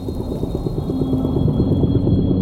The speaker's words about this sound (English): A coral reef soundscape is an indicator of its health. Unhealthy reefs are much quieter, silent even.